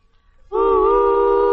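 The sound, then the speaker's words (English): A train whistle blows one long, steady, loud note that starts suddenly after a short quiet moment and holds to the end with a slight waver in pitch. “Blow the whistle and get on the track of Campbell's pork and beans.”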